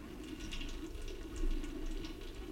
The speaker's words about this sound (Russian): Кто-то снова открыл кран в лаборатории!